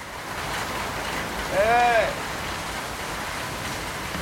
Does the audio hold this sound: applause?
no